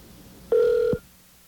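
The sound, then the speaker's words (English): A single short telephone ring tone while calling a card member services phone number, a steady electronic beep lasting about half a second, heard clearly over a quiet line with no one speaking. “So let's call the English version. Here we go. English version of that number.”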